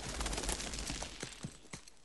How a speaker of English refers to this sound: Pigeons fly up from a field.